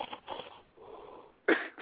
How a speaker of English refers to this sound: Man, this is the snore. Listen, y'all listen. Damn, snore.